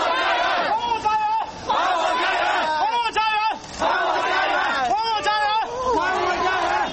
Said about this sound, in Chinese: 星期一，上百名无家可归的居民举行情绪激动的抗议，要求政府回购他们的住房。